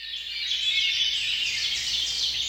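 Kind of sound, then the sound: bird, bird song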